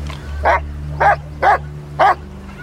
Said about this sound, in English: Come back to Daddy! Good dog. You do what you're told, don't you? Sorry. Is the dog bothering you? No, not at all. Marvelous pets, I've always thought. So obedient.